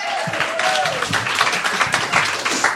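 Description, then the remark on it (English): An audience claps its hands in a steady, dense burst of applause that runs the whole few seconds, with a brief whistle-like tone near the start and faint voices mixed in. “Clap your hands.”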